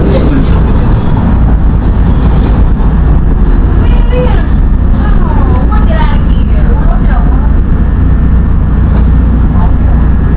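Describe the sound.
Inside a moving subway train travelling to Jackson: a loud, steady low rumble of wheels and motor fills the car, with faint indistinct voices murmuring beneath it and a few brief whining tones.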